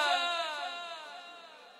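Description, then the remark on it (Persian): A long, mournful wail from mourners, urged to cry out for Rabab, rises clearly and then slowly trails off and fades over about two seconds, with no distinct words. “یه ناله یه ناله یه ناله. اونایی که طفل مریض دارن بچه ها رو جلوشون بگذارن، خواهرها و داد بزنن، برا دل رباب داد بزن.”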